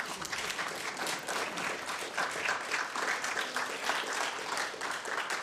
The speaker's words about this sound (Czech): Já myslím, že to zaslouží potlesk už tohle chvíli.